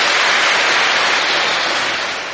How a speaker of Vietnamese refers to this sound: Cho một tràng pháo tay, quá giỏi.